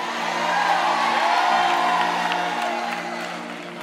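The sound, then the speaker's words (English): An audience shouts and cheers together in a steady, loud roar of many voices, with whoops rising above the crowd noise before it gradually eases off toward the end. “are y'all still shouting on that one right there?”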